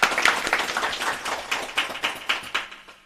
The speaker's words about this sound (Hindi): आप लोग तालियों से इनका स्वागत कीजिए।